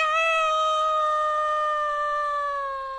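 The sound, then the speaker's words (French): A guinea pig lets out one long, shrill squeal that holds steady and slowly sinks in pitch over about three seconds, loud, with no voices around it. “Comme elle ressortait du poulailler, elle entendit les cris stridents du cochon d'Inde.”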